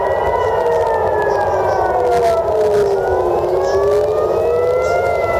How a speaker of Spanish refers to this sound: Mientras, en Israel, las alarmas antiaéreas siguen sonando.